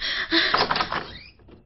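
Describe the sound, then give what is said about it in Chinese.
A dormitory room door is opened: a quick rattling clatter of the latch and a brief creaking swing, settling into quiet after about a second. “快开门”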